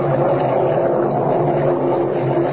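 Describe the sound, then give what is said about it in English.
A hailstorm beats down outside in a dense, unbroken roar, a loud steady wash of rattling noise that holds at the same level for the whole stretch, with no voices. “Kent, listen, that hailstorm is still going on.”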